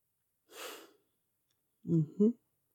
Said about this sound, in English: Listening to that little whisper as you breathe out. Feeling your chest rise and fall.